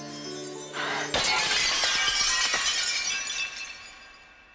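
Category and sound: sound effect, glass shattering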